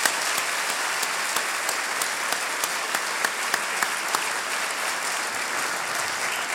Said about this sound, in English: I look forward to working with all of you in the next 4 years, and may I please have one final round of applause for all of our newly elected trustees.